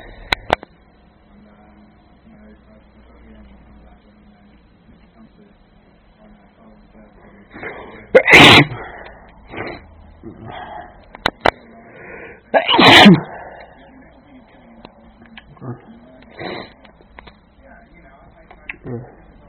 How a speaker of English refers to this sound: Allergies are really bad today. Been sneezing and coughing since I woke up, and it's mid-afternoon now, and doesn't seem like it wants to stop.